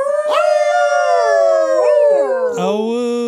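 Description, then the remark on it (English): Dogs howl loudly in a long, continuous chorus of overlapping wavering tones that slide up and down in pitch, with a new howl joining near the end. “Howl noise.”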